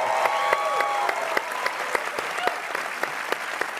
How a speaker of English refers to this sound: Everybody, big clap for Chris. Hi, Chris.